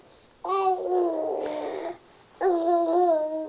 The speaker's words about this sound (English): Oh, you can hear her gurgling. She's in such a good mood today.